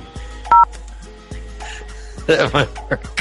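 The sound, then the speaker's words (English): A single short, loud telephone keypad tone beeps once over a low background hum as someone dials to reach the front desk, followed by muffled clicks and a brief burst of indistinct voices. “I'm going to try and get the front desk and tell them that I saw somebody breaking into the red car.”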